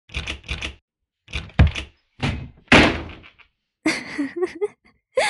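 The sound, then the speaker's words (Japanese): Heavy fists pound on a closed door by someone demanding it be opened, in loud, uneven bursts of thuds, with short pauses between volleys and a rattling, creaking edge to some blows. “早くここを開けてくれない？君を私の家に連れて行くには、この扉は邪魔なんだ。”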